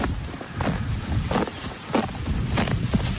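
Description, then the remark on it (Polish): Horses grazing, recorded with the microphone right at a horse's mouth, tearing grass in short, crisp ripping bursts that repeat roughly every half second over a low, steady rumble of background noise. No one speaks. “Cały czas ten jakby dźwięk tej zrywanej roślinności jest kojący na nasze serce przyrodników, dlatego że koni, czyli jakby zwierzę przebywające cały czas na pastwisku, on jednak w taki mało inwazyjny sposób ogranicza roślinność.”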